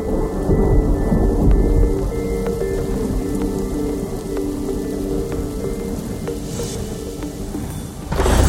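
A thunderstorm rolls on with steady, heavy rain and deep, sustained rumbling of thunder filling the low end, loud throughout, with no voices.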